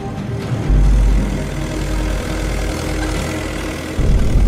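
tractor engine revving

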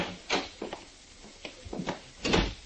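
door being opened

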